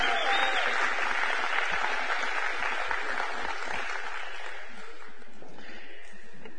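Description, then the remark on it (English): An audience in a church claps their hands for tithes and offerings in a dense, steady burst of applause that holds at an even level throughout, with a few sharper low thumps standing out from the crowd's clapping. “Why don't we clap our hands for tithes and offerings, please?”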